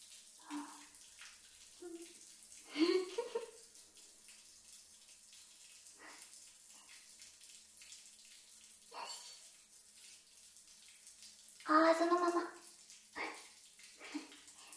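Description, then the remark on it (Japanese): Running water rinses soap foam off a surface in quiet, uneven gushes, with a few louder splashing bursts breaking through the steady low wash of the flow. “それじゃあ、泡を洗い流すぞ。”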